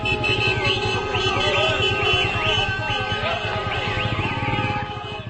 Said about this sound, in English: People took to the streets, massive traffic and crowds as people celebrated, Gazans celebrated what they saw as a victory for Hamas and for Gaza.